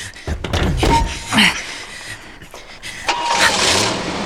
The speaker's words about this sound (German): Er fährt weg. Könnt ihr das Auto sehen? Nein. Es sind Bäume und Büsche davor.